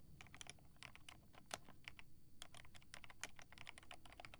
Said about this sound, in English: All you need to focus on is my voice. The sound of my keyboard.